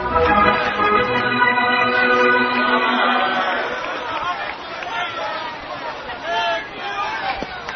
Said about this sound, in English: Anyway, listen to the roar of the crowd as the Indians take the field.